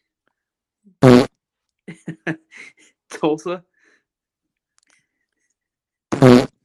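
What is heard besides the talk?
fart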